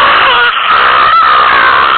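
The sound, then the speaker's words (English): A person screams loudly and continuously for about two seconds into a phone at a telemarketer, the harsh, strained voice sounding distorted as if through a phone line. “So yeah, when in doubt, just scream as loud as you possibly can at a telemarketer.”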